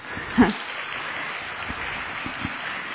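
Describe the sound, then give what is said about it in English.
An audience claps in welcome for Brother Nirvair at the 71st Trimurti Shiv Jayanti celebrations, a dense, steady patter of many hands with a sharper burst near the start, without speech over it. “So welcome with two hand clap.”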